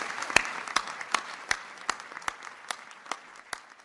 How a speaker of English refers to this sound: Please, let's give another round of applause for Amity Shale.